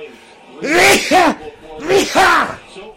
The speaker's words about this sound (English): God damn, man. I'm sneezing.